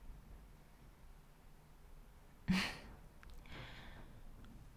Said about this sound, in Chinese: 喘息得这么厉害，你在享受什么奇怪的东西吗？